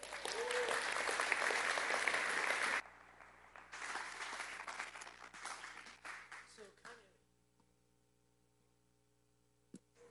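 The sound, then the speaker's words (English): A church crowd bursts into loud, dense applause for a full-time missionary for a few seconds, then it thins out and trails off into scattered claps before fading to near silence over a low steady hum. “Would you give a warm round of applause”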